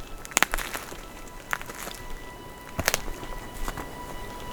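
Footsteps crunch over twigs, leaves, gravel and dry ground on a cracked path, a handful of irregular snapping steps with a soft crackling texture between them and no talking.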